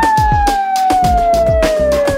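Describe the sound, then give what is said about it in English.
A dog's long, smooth howl slowly slides downward in pitch and carries loudly over a steady, thumping drum beat with regular hits in a birthday song, with no talking. “My dog says,”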